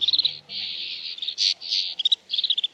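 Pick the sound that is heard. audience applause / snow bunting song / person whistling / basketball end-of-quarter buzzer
snow bunting song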